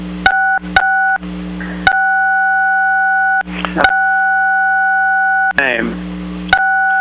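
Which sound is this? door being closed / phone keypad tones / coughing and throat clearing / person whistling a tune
phone keypad tones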